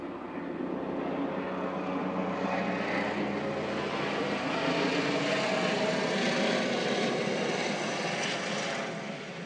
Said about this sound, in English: First time that's come overhead like that today. Another one in the distance now, don't know if you'll be able to hear this one. But that's going very much more slowly and higher than most of the other planes that we've had today.